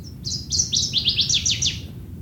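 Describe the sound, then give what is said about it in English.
A northern waterthrush sings a quick, emphatic run of about eight bright, down-slurred notes that speed up toward the end, over a steady low rumble, heard while bushwhacking among pitcher plants. “And then I heard northern water thrush.”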